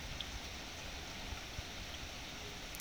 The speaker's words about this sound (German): Wenn all dieser Regen herabgesunken ist,